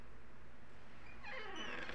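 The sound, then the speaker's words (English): A female dog named Chloe whines from the other room, a high, wavering cry that starts about halfway through and carries on to the end over a low background hum. “Silly dog.”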